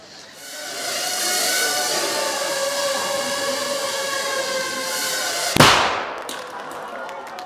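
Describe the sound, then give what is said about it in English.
A steady, high-pitched motorized whine hums for several seconds, then a 3-gram shaped explosive charge goes off in one sharp bang that cuts the whine and rings out briefly. “That little bang is enough to penetrate the skull and destroy the contents.”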